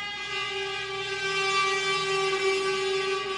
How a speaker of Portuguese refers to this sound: Assusta não, gente, é só caminhão, não é?